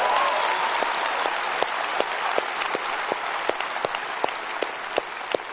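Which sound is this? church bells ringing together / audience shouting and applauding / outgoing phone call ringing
audience shouting and applauding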